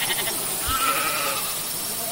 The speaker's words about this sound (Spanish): Y estás escuchando bien lo que parece, son ovejas grabadas desde un dron, 700 de ellas para ser más exactos, que gracias a los pastores, a sus perros pastores, alemanes también, han formado una jeringuilla de casi 100 metros de largo